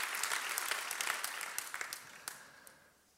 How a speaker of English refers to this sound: Give them a round of applause. Come on, give your leaders a big round of applause. That is awesome.